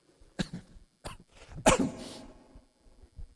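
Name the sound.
throat clearing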